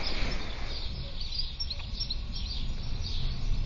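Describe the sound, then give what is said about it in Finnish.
Faint, unusual high bird calls chirp repeatedly at 6:30 in the early morning over a steady low rumble of howling wind in a heavy storm, with no one speaking. “Ihan ihmeellisiä linnun ääniä”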